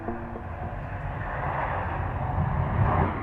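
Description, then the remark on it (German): A steady, broad roar of aircraft noise fills Munich Airport in Germany, a low rumbling drone that slowly swells louder toward the end, with no voices present. “Ortstermin am Flughafen München.”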